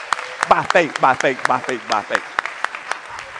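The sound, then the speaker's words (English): An audience gives the Lord a hand clap, clapping in scattered, irregular sharp bursts for a few seconds while a raised voice speaks over the crowd, the claps thinning out toward the end. “Somebody get a Lord a hand clap by faith right there.”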